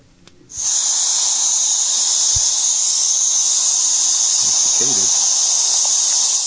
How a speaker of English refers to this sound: I hear cicadas. Yeah. Yeah. That was so loud.